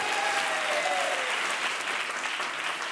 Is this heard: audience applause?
yes